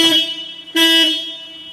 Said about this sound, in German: Und man hört schon, wenn wir mal hupen.